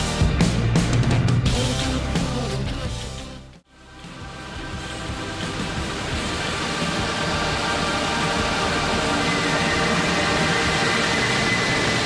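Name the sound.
radio static noise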